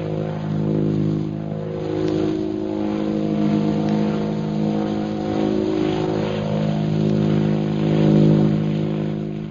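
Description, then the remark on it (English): A steady, droning aircraft engine hums with a rich low harmonic tone, swelling and easing slightly in loudness as the plane circles overhead above the military airport at Calcutta. No voices are heard. “Several hours later, the plane carrying Shanghai Lil and Jungle Jim circles over the military airport at Calcutta.”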